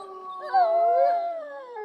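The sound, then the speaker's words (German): Several overlapping, wolf-like howls rise and waver as a moor atmosphere sound effect, sustained at a steady moderate loudness throughout the short stretch, forming an eerie, droning chorus with no talking. “Moor-Atmo bitte!”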